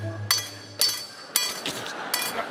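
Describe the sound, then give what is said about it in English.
Four sharp metallic taps ring out at uneven intervals as a surgeon strikes a chisel with a hammer during knee surgery, each with a brief bright ring, over a low steady hum and some faint shuffling. “You can see the surgeon with the hammer and the chisel there.”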